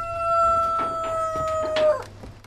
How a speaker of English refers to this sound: Hens run around the hut.